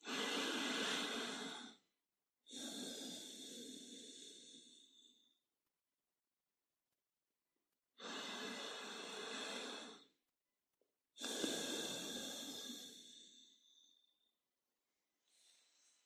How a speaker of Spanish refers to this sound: Adoptad la postura de meditación que consideréis más idónea y vamos a realizar un par de respiraciones profundas.